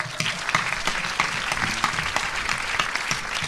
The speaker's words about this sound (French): Grand merci à vous tous, mais un merci un petit peu particulier pour nous ce soir, puisque c'est un grand merci que nous envoyons à Florence Janas, qui est notre égérie sur l'affiche cette année, et je vous demande de l'applaudir.